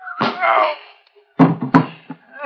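A strained vocal groan, then two hard thwacking blows in quick succession, like punches landing, knocking a man out cold, followed by a brief grunt.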